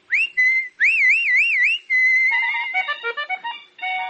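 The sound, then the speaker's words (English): A person whistles a lively tune, opening with rising swoops and warbling trills, then moving into a quick run of short, bouncing notes. No talking. “I'll be whistling, so you keep a-listening, will you, friend?”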